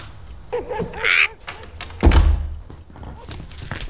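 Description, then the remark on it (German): A door is shut with one heavy thud partway through, preceded by brief murmured vocal sounds and quiet shuffling noises. “Sie sollen die Tür schließen.”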